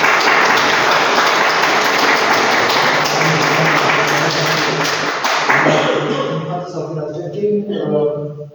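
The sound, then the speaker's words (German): After a baptism, an audience breaks into dense, steady applause for several seconds, then thins out as scattered claps give way to murmuring voices near the end. “Und jetzt können wir einmal klatschen.”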